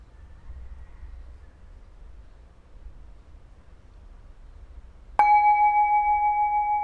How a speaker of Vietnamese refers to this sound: đi vào phần thực hành của mình sau tiếng chuông.